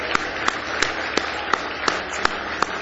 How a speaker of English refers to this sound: Let's give him one more big hand clap of praise tonight.